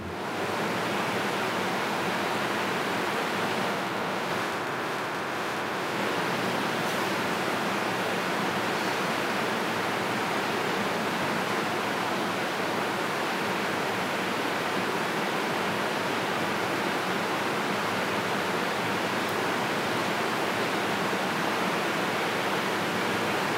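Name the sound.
flowing water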